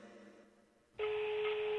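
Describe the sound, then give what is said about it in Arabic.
A loud electronic phone ring starts abruptly after a quiet moment and holds steady to the end. It is a single sustained, buzzy tone, with no talking. “باقي 8 رنات. تو الناس رايضين باقي 7. والله الظاهر باقي 6 رنات الحين.”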